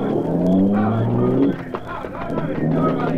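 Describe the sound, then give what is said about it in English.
A getaway car's engine revs hard, its pitch climbing as it accelerates away, then the roar drops off after a second or so and leaves a rough, noisy background. “They'll think I've escaped in the car.”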